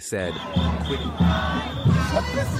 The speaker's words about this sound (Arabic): كما خرجت تظاهرة كبيرة في برلين الألمانية رفعت الأعلام الفلسطينية ورددت هتافات تدعو لوقف فعلي للعدوان على قطاع غزة، وطالبت الدول الأوروبية للضغط على كيان العدو لإيخاف الجرائم المستمرة وإدخال المساعدات الإنسانية